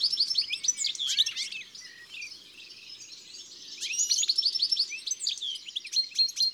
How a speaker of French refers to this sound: Beaucoup plus intime est le joli bavardage du chardonneret. Il ne porte pas loin, mais c'est plaisant. Et c'est pour ça qu'on le mettait en cage autrefois.